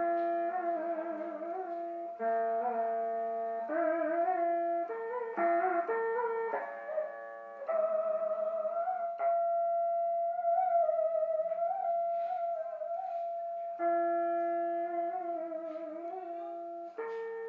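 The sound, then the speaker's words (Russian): A dan bau monochord plays in the Thai Vi temple near the village of Tam Coc, a slow, continuous melody of sustained, humming notes that bend and slide between pitches with a wavering vibrato, steady in loudness throughout, with no voices. “А это снова был инструмент дангбо, который вы уже слышали в прошлом эфире.”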